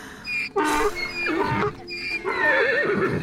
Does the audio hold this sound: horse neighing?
yes